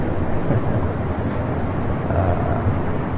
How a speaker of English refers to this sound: That's the sound for the train that you hear. It's the arrival train. It said the train for Kuromai is arriving at like 1:01, and please stand behind the white line.